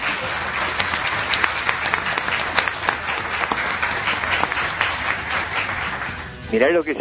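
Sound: audience applause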